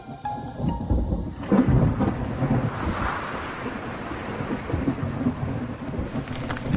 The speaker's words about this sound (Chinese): 4月中旬，天气突变，大风伴随降雨，花期提早结束。